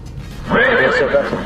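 A horse neighs loudly, a single shrill whinny lasting about a second with a wavering, quivering pitch, after a brief moment of quiet background noise.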